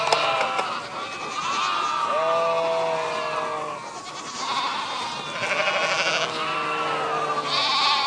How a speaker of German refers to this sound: Die Hunde halten die Schafe nicht auf einem Fleck, ne? Das ist, also, das, so ist es nicht, ne? Sondern es gibt ein Gehüt, das ist das jetzt, was wir hier machen.